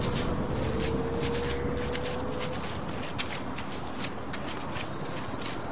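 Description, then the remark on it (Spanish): Steady footsteps trudge up a wet, muddy path leading to a house at night, each step a soft squelch half-buried beneath a constant wash of rain noise. No one speaks. “Y subo por el embarrado sendero que lleva a mi casa.”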